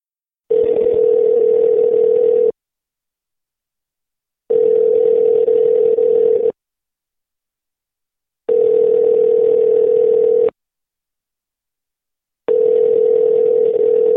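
A loud, steady telephone tone sounds in four even bursts, each about two seconds long and separated by equal silences, with no voices.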